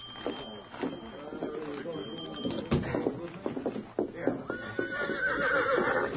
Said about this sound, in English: This is my horse. Steady, Victor. Steady, boy. Golly, sure's a fine horse.